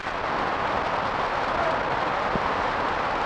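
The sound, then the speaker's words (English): Heavy rain pours down in a dense, steady roar with a fine crackling patter, holding an even loudness throughout with no voices. “I'm gonna put my tape up here and turn it up and let y'all hear the rain coming down.”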